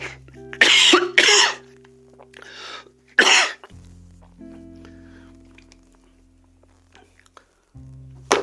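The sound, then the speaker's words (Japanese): Several loud coughs in quick succession, four harsh bursts over the first few seconds, followed by quiet background hum with faint low tones and small rustles. “すいませんちょっと咳をしますね、編集でカットします。”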